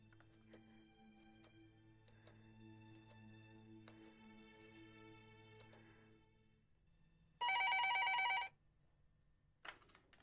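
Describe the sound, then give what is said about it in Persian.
A loud telephone bell rings in one sharp burst of about a second, then starts ringing again just as it ends, preceded by soft clicking and tapping over a low steady hum. “تلفن با تو کار داره، گوشی رو بردار.”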